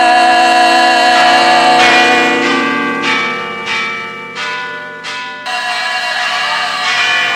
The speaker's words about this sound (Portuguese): Os sinos andam badalando por aí. Os sinos badalam na sua cabeça.